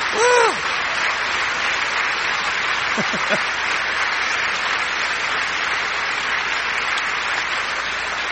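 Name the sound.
audience applauding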